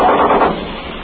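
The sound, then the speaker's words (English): A machine gun fires three or four shots from a landing craft going ashore on Iwo Jima, a loud, rough burst that blurs into one harsh roar before fading into a steady rumbling noise. No voices are heard. “Our machine gun just fired from the craft, three or four shots, you probably heard it.”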